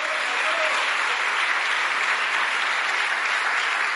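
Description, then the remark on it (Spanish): Sustained, dense applause from an audience, given to the Lord, steady and loud throughout with no breaks, a continuous wash of many hands clapping together. “Damos un buen aplauso al Señor, pues, hermano.”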